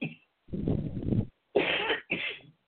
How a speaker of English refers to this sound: That makes me cough.